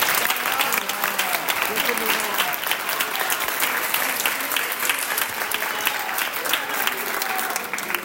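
An audience claps steadily for about eight seconds, a dense, even patter of many hands with no break, the sound staying loud and bright throughout.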